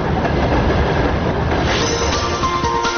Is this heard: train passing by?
yes